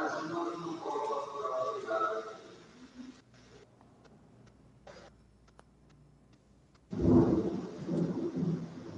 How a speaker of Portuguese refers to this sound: A gente está ouvindo os trovões aqui,